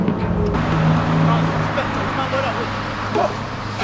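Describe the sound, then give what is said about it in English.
A bus rumbles in with a steady low engine drone and broad road noise, holding fairly loud throughout as it pulls up at a street-corner bus stop, with faint indistinct voices mixed in. “As the bus draws up, the gang split up in different directions.”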